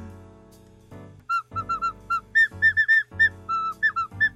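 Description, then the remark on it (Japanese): A whistle built into a ballpoint pen blown in a short halting tune: around a dozen shrill, clear notes stepping up and down in pitch, some held and some quick, with brief pauses and a low background hum. “あのあれですよ、これ、はい、あのちょっと救助を待つときにピー吹いてもね、まあ、ちょっとそれは無理かもしれないけど。”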